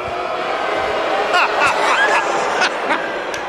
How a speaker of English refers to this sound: Guy's getting booed out of the arena.